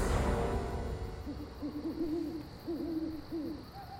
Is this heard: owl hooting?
yes